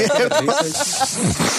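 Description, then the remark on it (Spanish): A wet, hissing sniff as someone snorts snot up the nose, a breathy rushing sound lasting over a second, mixed with brief voiced, murmuring tones. “¿Escucharon esa sorbida de mocos?”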